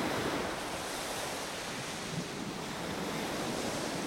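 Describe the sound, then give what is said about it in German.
Steady ocean surf washes continuously onto the shore in front of a veranda, a broad hiss of breaking waves with some wind, moderately loud and without pauses or voices. “Das Meer liegt stimmungsvoll vor mir.”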